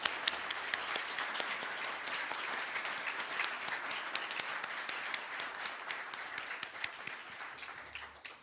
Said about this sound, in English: Please join me in a big round of applause thanking